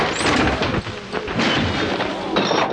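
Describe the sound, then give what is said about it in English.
Furniture being smashed as malcontents ransack a room: a loud, dense clatter of heavy thuds and sharp cracking bangs that tumble over one another without pause for a few seconds. “Smashing the furniture.”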